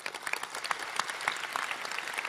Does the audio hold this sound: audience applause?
yes